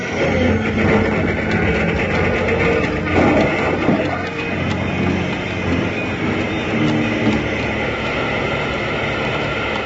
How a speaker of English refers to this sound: The engine plunged toward it, too late to avoid a crash.